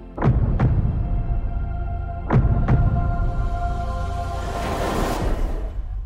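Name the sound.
heartbeat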